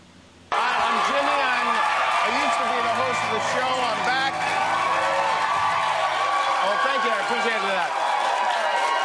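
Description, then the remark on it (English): Loud applause and cheering burst in after a brief quiet start and hold steady throughout, dense clapping mixed with shouts and whoops from a large crowd. “You know, I have to say, when I walk into a room at home, nobody claps. There's no clapping.”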